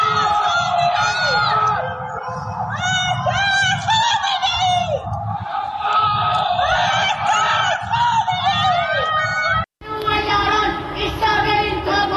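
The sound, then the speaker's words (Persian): Many voices of protesters shout 'Death to Khamenei' from dark home windows at night, Tuesday 21 Bahman 1404. It is a loud, continuous, overlapping clamor like crowd chanting, with a brief cut near the end before the shouting resumes. Islamic Republic fireworks mark the anniversary of the 1979 revolution. “در یکی از ویدئوهای منتشر شده معترضان از پنجره فریاد مرگ بر خامنه‌ای سر می‌دهند، در حالی که در پس زمینه آتشبازی جمهوری اسلامی به مناسبت سالگرد انقلاب 57 دیده می‌شود.”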